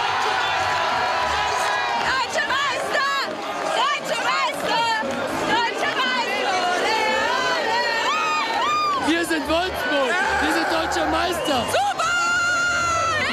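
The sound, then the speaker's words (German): A dense crowd of football fans in Wolfsburg cheers and celebrates the championship after the final whistle, with loud overlapping shouts, whoops and excited chatter filling the air continuously, energetic throughout. “Ja, Jubel braucht eben nicht viele Worte.”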